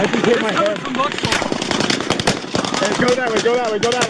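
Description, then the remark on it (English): Rapid bursts of gunfire from multiple weapons crackle and overlap, loud, while Las Vegas Police Department officers shout urgently over the shooting. “There's gunshots coming from over there!”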